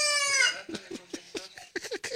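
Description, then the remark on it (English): A Salvadoran rooster, recorded in El Salvador and used as a phone alarm, gives a loud, strained crow that trails off, followed by a quick series of throaty clucks and short chattering calls, clear with no talking. “That is a Salvadoran rooster.”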